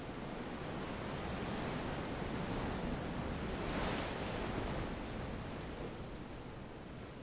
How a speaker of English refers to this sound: threw himself on the sand that was warm and fine, and listened to the sound of the surf. It was as if he had finally found someone who spoke his language. The Pacific Ocean.